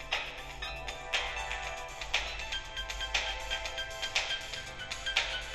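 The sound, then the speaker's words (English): An alarm clock's first alarm tone, Melody 1, plays a bright, electronic repeating pattern of quick, high chiming tones in a steady rhythm, fairly loud and with no voices over it. “Alarm bell. Melody 1. Combo box.”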